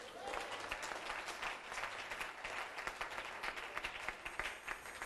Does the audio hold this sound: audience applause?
yes